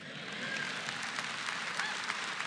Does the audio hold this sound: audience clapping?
yes